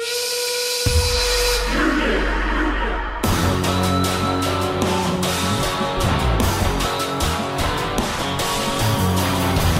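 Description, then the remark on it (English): A shrill, sustained steam whistle blows with airy hiss for about three seconds, opening the theme song of the group The Union; then a loud, driving rock theme with pounding drums and heavy guitars crashes in and continues steadily. “I'm not saying it's a great theme or even a good one, but I want you to keep in mind the opening of that song with the steam whistle and the group vocal, Union.”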